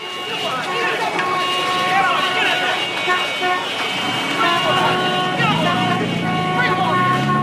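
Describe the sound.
A car is towed away on a busy New York City street: steady traffic roar with repeated honking horns and a rising engine whine, loud, with muffled voices mixed into the din.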